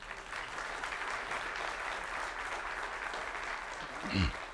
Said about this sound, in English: Praise his holy name. Let's give Jesus Christ a clap offering tonight.